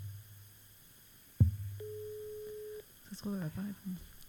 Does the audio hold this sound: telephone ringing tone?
yes